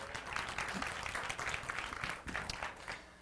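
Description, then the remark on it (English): An audience applauds steadily, clapping to show they watched the TV show The A-Team as kids: a dense patter of many hands clapping at once, sustained at an even level for a few seconds with no voices standing out. “How many of you guys watched the A-Team as a kid? You got to clap.”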